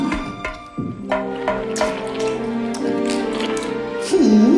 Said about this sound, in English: Christopher Robin pulls the rope and sets the pot on the ledge. He knocks on the large container.